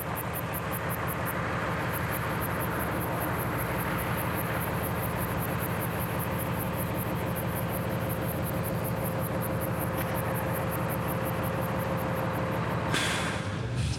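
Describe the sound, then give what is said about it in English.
Crickets chirp in a steady, rapid pulsing rhythm that continues throughout, set against a constant low rumble like traffic or an idling engine, with no one speaking. “I would perhaps put my tent next to a lake, enjoying the swells of the crickets, but never far from being on the road again.”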